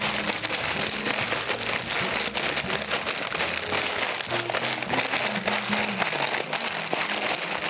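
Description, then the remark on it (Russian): A large sheet of paper is crumpled by hand, crinkling and crackling continuously in a dense, steady rustle lasting several seconds, with a faint low hum or music underneath and no talking. “Теперь мы берем бумагу.”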